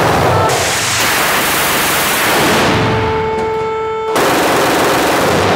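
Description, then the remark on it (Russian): Deafening bursts from an aircraft cannon firing live combat rounds at a shooting range, triggered from the cockpit control stick, the rapid shots merging into a dense continuous roar, with a brief high whine midway before the fire resumes at full force. “Если говорить о впечатлениях во время стрельбы, то первое, на что обращаешь внимание, как такое может быть, что в тире в момент стрельбы грохот такой, что народ разбегается от одного только звука, а в кабине такого шума нет?”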